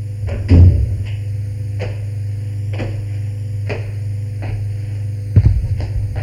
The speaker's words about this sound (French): pousse une porte palière qui n'était pas fermée. Entre. Ils entrent.